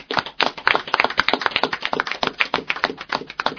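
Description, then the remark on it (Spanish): A group of people applauding at the close of the show Tarumba, with dense, overlapping hand claps that stay fairly loud and steady for a few seconds. No voices are heard. “Pues un fuerte aplauso, chicos.”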